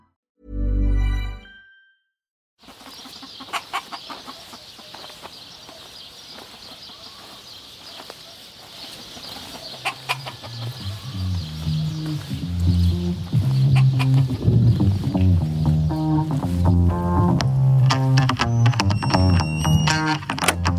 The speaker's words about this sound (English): We are here in the hen house.